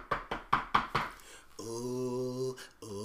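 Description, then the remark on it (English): Five quick, firm knocks on a front door in a steady rhythm, loud, followed by a sustained ringing chime-like tone that briefly breaks and resumes. “That's my door ringing.”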